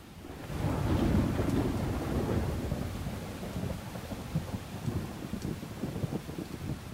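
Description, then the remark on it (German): A heavy rainstorm swells in quickly, with the first big drops pattering densely, a deep rumble and strong gusting wind growing stronger and roaring steadily throughout, loud with no voices. “Da fallen die ersten dicken Tropfen vom Himmel. Der Wind wird stärker.”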